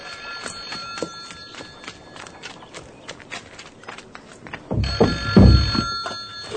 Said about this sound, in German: Ach, das Telefon. Wieso geht Tante Mathilda nicht dran?